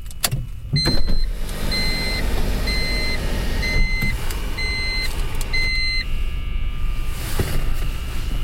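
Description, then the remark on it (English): A street light gives off a high electronic whine that pulses on and off in a steady rhythm, each short tone repeating about once a second over the low rumble of an idling car, heard from inside a car with its roof opened. “Oh, it must be the street light.”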